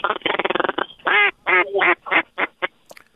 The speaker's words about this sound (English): That's 2 bigger ducks right there.